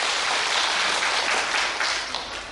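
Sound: audience applause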